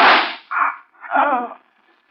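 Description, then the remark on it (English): A single sharp gunshot cracks out and quickly fades, followed by two short pained groans from the man who was shot, then a pause and a faint click at the very end. “Dutton, who shot you?”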